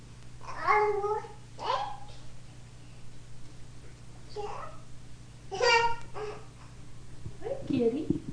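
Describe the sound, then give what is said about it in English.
A cat meows about five times in short, separate calls spread across several seconds, moderately loud, with a steady low hum underneath. “Hi, Kitty. Kitty.”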